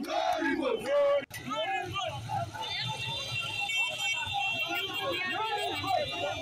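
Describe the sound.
A crowd of MPP supporters protesting in the streets of Pandai against the High Court's decision to annul the elections shouts and chants together in a dense, continuous roar of many voices, with a brief sharp cutout near the start before the clamor resumes steadily.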